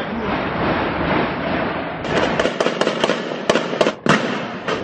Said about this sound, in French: C'est l'assaut qui est mené par le raid, avec énormément de coups de feu, des explosions. Dans cet appartement de Saint-Denis, il y a trois personnes.